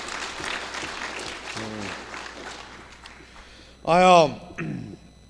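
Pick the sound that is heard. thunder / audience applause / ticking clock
audience applause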